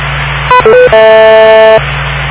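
A radio repeater courtesy tone: a few quick electronic beeps stepping between pitches, then a longer steady buzzy tone lasting almost a second, over a low hum of radio static.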